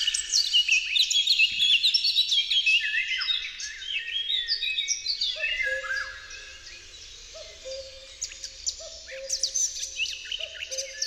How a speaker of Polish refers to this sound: Do najbardziej charakterystycznych śpiewaków majowego lasu należy kapturka, która rozsyła wiązankę z krzyczących dźwięków przechodzących w piękne, melodyjne tony.